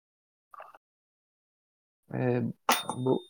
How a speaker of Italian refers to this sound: Ho sentito un campanello.